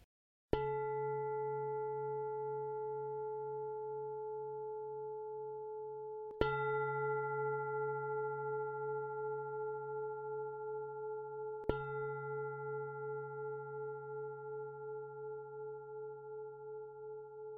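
Three meditation bell strikes marking the start of a meditation exercise, spaced about five to six seconds apart, each ringing with a bright metallic attack and a long, steady, shimmering tone that sustains and overlaps into the next. No one speaks.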